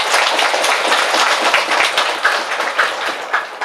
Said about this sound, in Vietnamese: thì xin cho một tràng vỗ tay thật lớn để tán dương chung.